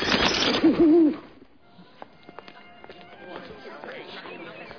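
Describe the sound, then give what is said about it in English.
An owl gives a short, loud hoot right at the start, then the scene drops to quiet, scattered clicks and light rustling. “Hi, Mrs. Owl. You're up kind of early.”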